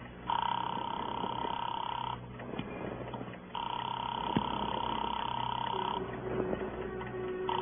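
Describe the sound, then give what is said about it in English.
A telephone call being placed to Gilbert's jewelry shop at 11:30 at night: two long, steady electronic ringing tones sound on the line with a pause between them, fairly loud, while faint voices murmur in the background. “Give me that phone.”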